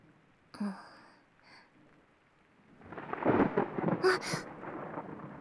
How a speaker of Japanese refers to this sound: 雨、当分やみそうにないね。だんだん激しくなってる。